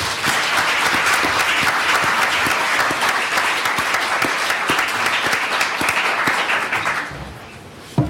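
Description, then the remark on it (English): Steady, loud applause from the audience at the BJS lecture in London welcoming the speaker, a dense wash of many hands clapping that holds for about seven seconds before fading out, with no voices over it. “First, I want to thank you for clapping for me.”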